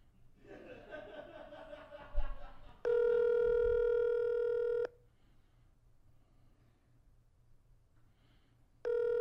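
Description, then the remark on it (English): Brief laughter gives way to a phone call ringing out: a loud, steady electronic ring tone lasting about two seconds, a quiet pause, then the ring starting again. “We can call her.”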